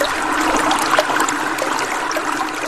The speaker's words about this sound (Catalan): va trobar un ample riu en el que circulava un bon cabal d'aigua fresca i cristal·lina